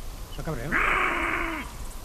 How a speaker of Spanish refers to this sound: Y aquí sí, aquí estamos escuchando una noche de finales de diciembre, llaman los búhos. Como siempre, en esta época el búho está en celo, y aquí un lince en celo.